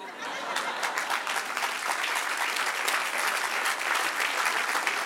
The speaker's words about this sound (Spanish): Se lo merece. Dale otro. Amén. Porque mis amados, cada aplauso es un brindis con el Señor.